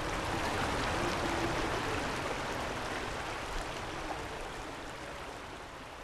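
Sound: creek water flowing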